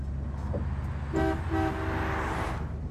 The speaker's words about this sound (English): Why was that guy honking and waving at us? He was pointing at the undercarriage.